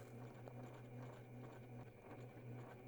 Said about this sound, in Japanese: 隣の部屋からはミシンの音がよく聞こえてきたものだ。